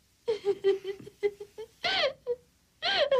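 A woman in a film scene cries, a run of quick, broken sobs followed by two longer, high wailing moans with short gasping pauses between them.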